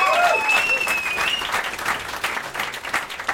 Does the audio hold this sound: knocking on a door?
no